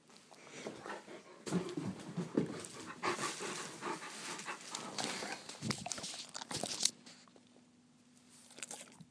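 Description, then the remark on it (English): A dog sitting in front of a person holding a treat licks and smacks its lips, wet clicking and slurping sounds in quick irregular bursts mixed with soft panting, with no one talking. “And he keeps licking his lips.”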